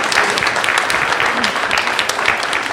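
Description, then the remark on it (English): A crowd claps steadily and loudly for children who made a picture of something broken being restored into something beautiful, a dense wash of overlapping hand claps sustained throughout with no pauses, with faint voices mixed in underneath. “Let's give these kids a round of applause.”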